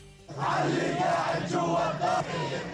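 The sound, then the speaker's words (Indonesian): A large crowd in the streets of Ramallah in the West Bank chants slogans in unison, demanding retaliation for the killing of Hamas official Saleh Aruri, a dense roar of many voices rising in rhythmic bursts over a sustained, loud wash of shouting. “Kerumunan massa di Ramallah ini menuntut aksi balasan untuk pembunuhan Aruri, meneriakkan slogan-slogan dan meminta kepada Syed Hasan Nasrallah, Sekjen Hizbullah di Lebanon, untuk mengambil tindakan.”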